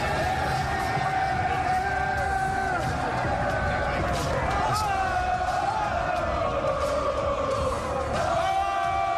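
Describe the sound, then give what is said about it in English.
A large crowd of Knicks basketball fans stands outdoors in the street on 7th Avenue, screaming and cheering in a continuous loud roar of many voices, with whoops and shouts rising and falling throughout. “This is Knicks fans. They're just standing out in the street screaming.”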